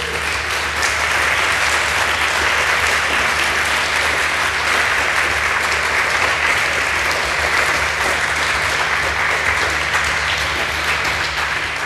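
Sustained applause from a sizable audience, a dense, even wash of clapping that stays steady and fairly loud for the whole stretch, with no voices standing out.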